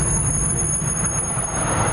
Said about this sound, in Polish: To hamujące nieopodal tramwaje.